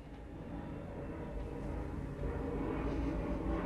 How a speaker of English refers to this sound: Now all of a sudden all these damn planes come flying all of a sudden because the Most High is speaking today.